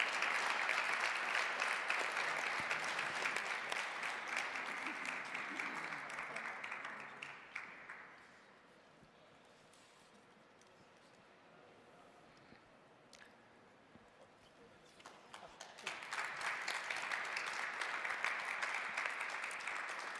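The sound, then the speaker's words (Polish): An audience applauds at an awards ceremony as distinctions are presented to honorees, in a dense wash of clapping that fades out, leaves a few seconds of near quiet, then swells into a second loud round of applause. “Myślę, że to z państwa strony znakomita okazja, by jeszcze raz oklaskami nagrodzić także wyróżnionych.”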